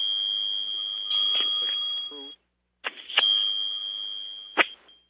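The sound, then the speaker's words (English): A steady, high-pitched ringing of bells on a phone line, with crackles and clicks, cuts out briefly midway, then resumes with sharp pops and faint muffled chatter. “There's a lot of ringing bells on the line.”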